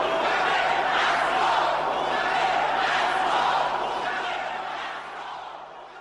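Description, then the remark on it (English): A large crowd roars and jeers, interrupting a speech, with rhythmic chanting demanding that President Robert Mugabe step down, swelling and falling in waves. The dense, loud mass of voices holds steady throughout, easing slightly toward the end. “As you can hear, his address was repeatedly interrupted by jeering and chanting by the crowd, demanding that first President Robert Mugabe must step down.”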